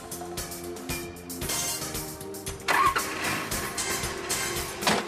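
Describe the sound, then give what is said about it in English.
A diesel vehicle engine cranks and catches, then settles into a steady, rumbling run with a low droning hum and a few louder surges. No one speaks. “It's called biodiesel, and it'll work in any vehicle with a diesel engine.”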